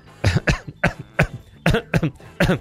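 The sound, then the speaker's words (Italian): A person coughs repeatedly, about six harsh, loud bursts in an uneven sequence with brief pauses between them and no talking. “Aspetta, perché sono positivo alla tosse in questo momento.”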